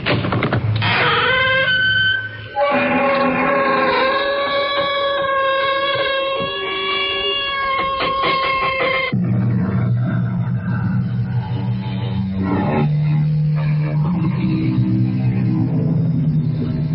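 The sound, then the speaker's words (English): A heavy crypt door, the opening sound effect of The CBS Radio Mystery Theater, creaks open with a long, loud, groaning squeal that wavers in pitch, then creaks shut with a lower, rougher drone. No voices are heard. “Yeah, the ominous sound of a creaking crypt door.”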